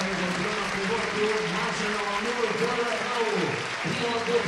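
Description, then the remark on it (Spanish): The crowd at Montilivi stadium gives a sustained standing ovation to Girona captain Arnau as he leaves the pitch, dense clapping holding steady and loud throughout, with cheering voices blended into the roar. “Es todavía más imponente la ovación con la gente de pie”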